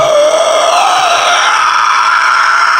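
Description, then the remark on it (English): A voice imitates a long, strained inhaled yell, a harsh sucking shriek held steadily for nearly three seconds, loud with a rising, raspy pitch. “Famous inhale yells in history, that.”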